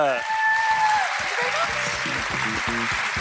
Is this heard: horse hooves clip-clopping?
no